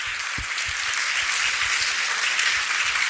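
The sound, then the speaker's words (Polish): Steady, sustained applause from an audience at a film screening as guests Natalia Mętrak and Michał Oleszczyk are welcomed onto the stage, a dense wash of many hands clapping at an even loudness throughout, with no voices over it. “Wielkie brawa, bo to nasze dzisiejsze gwiazdy.”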